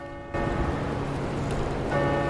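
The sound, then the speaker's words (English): A loud bell starts ringing abruptly after a brief pause and keeps clanging continuously, bright, with no voices, as if an alarm or warning bell has been set off. “Can we turn the bell off?”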